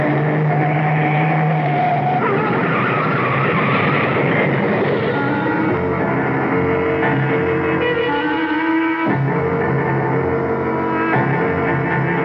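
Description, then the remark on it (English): A car swerves off the road to avoid a truck: a loud, sustained roar of engine and tires with shifting screeching tones, lasting several seconds with no voices. “That truck! Turn the wheel! Go off the road!”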